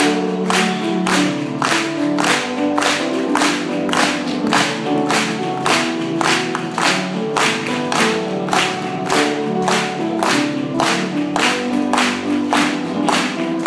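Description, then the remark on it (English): A church audience claps steadily in time along with a worship song, sharp rhythmic claps about two per second layered over sustained singing or music with strong harmonic tones, the whole scene loud and full. “Let's just clap and do it.”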